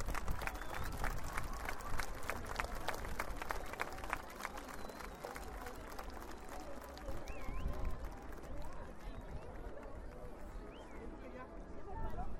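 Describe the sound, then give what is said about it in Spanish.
A crowd at a Passion of Christ reenactment applauds steadily after Jesus has died and is about to be taken down from the cross, many hands clapping in a dense, unbroken patter that stays loud throughout, with murmuring voices mixed underneath. “Jesús el Cristo ha muerto, su madre María ha dado el permiso para que lo bajen de la cruz, y en este momento se escucha el aplauso de la concurrencia.”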